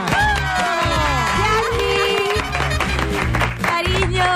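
A loud crowd cheers and whoops with high voices, with applause mixed in over a steady low thumping beat. The noise stays dense and continuous for the whole few seconds.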